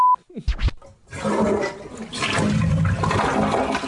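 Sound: toilet flushing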